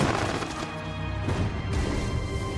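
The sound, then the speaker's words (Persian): A dense, loud barrage of gunfire from soldiers firing on command in a battle, with overlapping shots and booming blasts that roll on continuously, chaotic like a battlefield volley, with no voices. “نشونه گیری آتش.”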